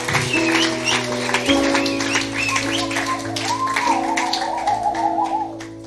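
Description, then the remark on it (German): Steady audience applause at a church service follows a prayer. It is a dense patter of many hands clapping that runs under sustained keyboard chords and melodic music for about six seconds, staying fairly even in loudness before easing at the end. “Komm on, lass einmal einen Applaus geben.”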